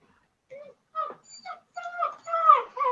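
A dog whimpers and yips in a string of short, high, tonal cries that grow more insistent, fairly close and clear with no talking over them.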